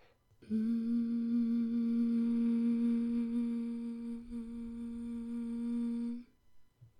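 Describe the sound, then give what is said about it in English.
A person hums one long, steady note at a low-to-middle pitch for about six seconds, holding it evenly at a fairly strong level before stopping, with no talking. The person hums on request during a chakra session while their neck and throat are being felt. “Could you hum for me? Like this?”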